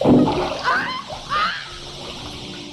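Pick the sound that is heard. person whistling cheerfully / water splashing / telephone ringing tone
water splashing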